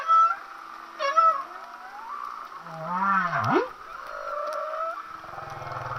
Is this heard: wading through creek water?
no